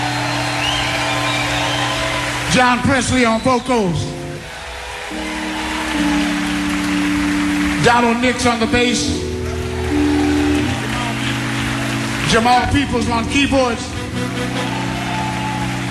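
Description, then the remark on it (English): Steady, crackling crowd applause for a musician on saxophone runs through the whole stretch while a man announces between sustained jazz band chords, his voice breaking through the clapping in three short bursts. “Everybody, how about a round of applause for … on saxophone?”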